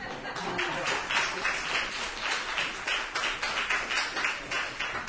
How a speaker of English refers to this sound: Obviously, Georg cannot be here this evening, so we thought it fitting that his nephew, Arnold Greisler Schoenberg, acknowledged the applause for his work in his memory.